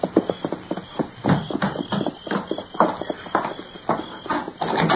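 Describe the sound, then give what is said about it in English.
Horses, including one called Silver, are led around and back, their hooves clip-clopping in a steady, uneven rhythm of many sharp knocks, continuing throughout at moderate loudness over a faint background hiss, with no talking. “You take the horses around and back.”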